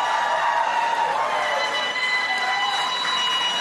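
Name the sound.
audience applause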